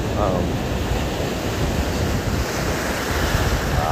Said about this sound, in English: Listen to those waves, boy. Listen, the waves are talking to me.